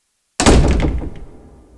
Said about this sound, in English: She's very frightened. She opens the door and starts to go up the stairs. Suddenly, she hears the door shut loudly.